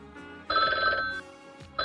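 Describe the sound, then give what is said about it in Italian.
A telephone rings for the first incoming call, two loud electronic bursts with a brief pause between them, bright, with no voices over it. “Oh, ecco in arrivo la prima telefonata.”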